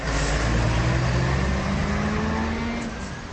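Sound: car driving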